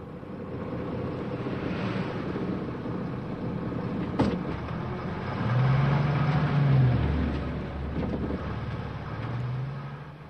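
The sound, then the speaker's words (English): A bus rumbles past a house in Peru at 4 o'clock in the morning with steady engine and road noise, sounding a long, low horn blast midway and another toward the end to wake people. No one speaks. “As you can hear here, passing the house, the bus begins in the morning, blowing the horn to wake up these people at 4 o'clock.”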